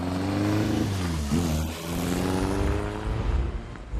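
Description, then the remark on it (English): A car engine revs and accelerates as the car lurches onto a highway, its droning pitch climbing, dipping briefly as it shifts gear, then pulling on with a steady roar. No voices. “Lurching onto the highway, sporting a rushed pair of 595 truck stop sunglasses.”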